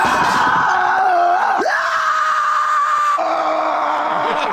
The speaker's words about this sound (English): then just lets out this horrible shriek. A lot like the screams of Gorgoth of Barbarian.